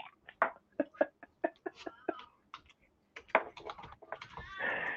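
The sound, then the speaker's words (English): A rapid run of light clicks like typing on a keyboard, then a drawn-out cat meow rises near the end, moderately loud. “I just think it's funny that you have to raise your volume to, like, drown out the sound of the cat dog, right.”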